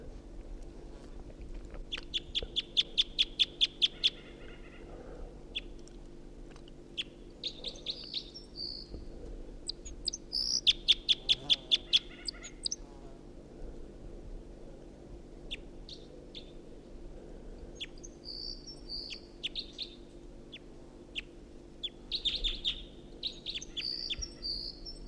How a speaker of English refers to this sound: Got two singing birds here. I got one right above me and another in the tree above the net.